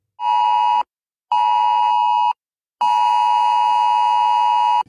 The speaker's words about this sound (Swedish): Den 7 september klockan 15 så testas Sveriges nya varningssystem, SE Alert, i Stockholm och Gotlands län. Då skickas en hög ljudsignal, vibration och ett textmeddelande direkt till smarta mobiltelefoner i området. Så här kommer det att låta.